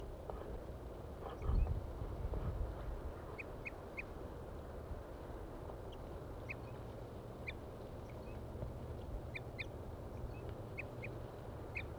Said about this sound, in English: The birds are still up in the trees tooping.